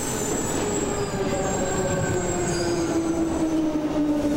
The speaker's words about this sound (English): There's the subway. Are you gonna get on this? Are you gonna get on the train? Yeah. You can hear it. You know the people moving around.